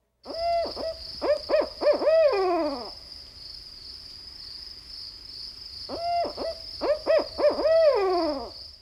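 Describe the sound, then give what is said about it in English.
An owl gives a rhythmic series of hoots that seem to say "Madam, who cooks for you all?", ending in a drawn-out, descending note, pauses, then repeats the same phrase; clear over a steady high-pitched background hum. “Listen to a variation, which seems to say, "Madam, who cooks for you all?"”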